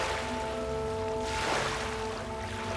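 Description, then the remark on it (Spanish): Soft, steady ocean waves wash continuously, with one gentle swell rising and receding midway, beneath a sustained, calm musical drone. No one speaks. “Siente la brisa marina acariciando tu piel y escucha el suave sonido de las olas.”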